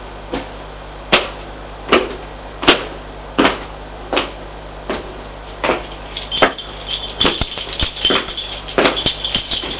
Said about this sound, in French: ouvre la porte avec sa clé.